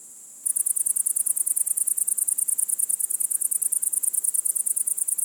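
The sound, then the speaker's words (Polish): Loud, rapid, high-pitched insect chirping, like katydids or grasshoppers, pulsing in a steady fast rhythm, with no voices. “Czyli w skrócie pasi koniki cykają głośno na drzewach i krzewach, a koniki szarańczaki cichutko w trawach.”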